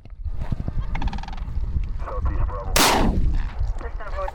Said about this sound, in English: He stops the car and shoots off a cracker shell, basically a firecracker, to make a loud noise to scare the birds away.